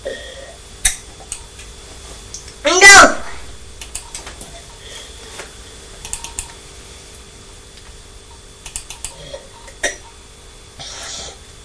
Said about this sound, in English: Is Mummy doing some typing?